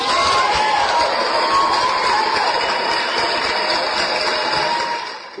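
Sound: applause and cheering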